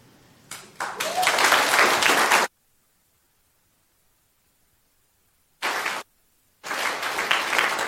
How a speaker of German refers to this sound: Bleibt doch ganz kurz da. Das ist euer Applaus, da dürft ihr stehen bleiben.